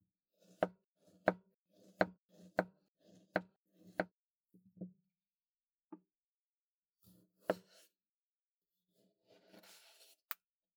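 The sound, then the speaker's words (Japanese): A knife chops fresh, unfrozen banana and tomato on a cutting board for a blender, in a quick, steady series of crisp thuds, then a few scattered cuts and a brief rustle. No one speaks. “カットしたバナナとトマトをミキサーに入れて、”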